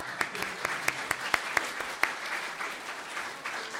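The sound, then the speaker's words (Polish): An audience breaks into steady applause for a choir, many hands clapping together in a dense crackle, with a few sharper individual claps standing out early on before the clapping gradually thins. “Super było, nie? Brawo!”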